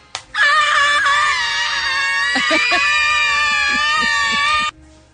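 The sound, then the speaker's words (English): A loud, sustained high-pitched scream, like girls shrieking, holds steady for about four seconds with a slight wavering pulse, unbroken, with no talking over it. “Just girls screaming.”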